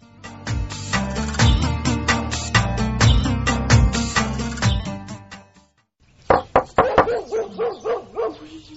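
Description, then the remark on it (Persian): A tied-up dog barks loudly in a rapid, repeated string of barks, falls silent briefly, then resumes with another volley of sharp, echoing barks. “از برای خدا یک دفعه ای سگ ایلا نشه.”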